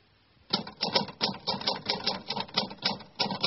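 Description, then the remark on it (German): Rapid, steady mechanical clacking of a woman typing on a typewriter starts after a brief silence and continues in an even rhythm of sharp keystrokes, fairly loud, with no voices. “Sie tippt.”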